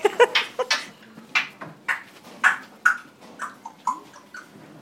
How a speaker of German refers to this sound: Papagei Zico turnt weiter durch seinen Käfig.